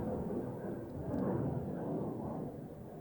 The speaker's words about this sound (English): There's a jet over our head. Sounds really loud.